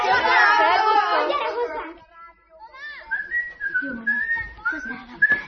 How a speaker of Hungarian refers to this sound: Meg foglak mondani a tanítónének, hogy a fütyörészel az utcán.